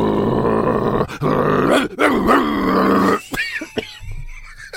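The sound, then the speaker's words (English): A man's voice imitates a dog, voicing Bielsa growling at a coffee shop owner, snarling and growling loudly and continuously for about three seconds, then breaking into short, rough grunts and huffs with brief pauses between them. “Well, at that moment, Bielsa begins to growl and grunt.”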